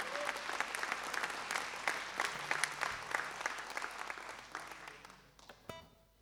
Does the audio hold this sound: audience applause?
yes